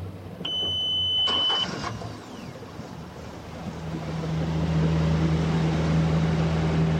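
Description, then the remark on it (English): A motorboat engine on the Androscoggin River between the cities of Lewiston and Auburn hums at low idle, then revs up into a loud, steady droning roar as a man maneuvers the boat. A few brief high-pitched electronic tones sound near the start. “Ward maneuvers his boat on the Androscoggin between the cities of Lewiston and Auburn”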